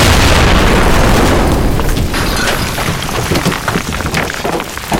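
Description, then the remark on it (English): A loud, heavy explosion blast set off by a lit fuse opens with a dense low rumble and pressure wave, then breaks into scattered crackling and falling debris and boulders that patter and thud for several seconds. “The air is full of boulders, and just this huge pressure wave knocks everyone off of their feet.”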